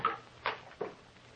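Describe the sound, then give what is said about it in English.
After a key turns in the lock and the door unlocks, the door of a home swings open, marked by a few short knocks and rattles of wood and hardware spaced roughly half a second apart, with no voices. “Swings open.”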